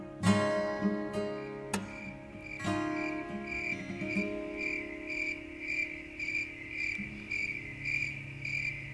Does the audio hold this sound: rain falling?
no